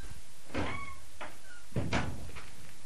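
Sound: knocking on a door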